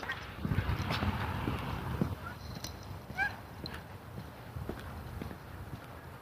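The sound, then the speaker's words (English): A few short goose honks ring out, scattered among a steady background of rustling and clattering steps, with no one talking. “A few geese up here.”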